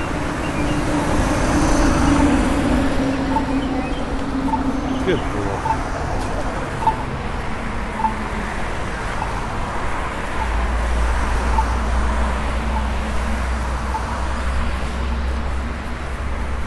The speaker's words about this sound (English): Okay, we're crossing here again. We've got the traffic.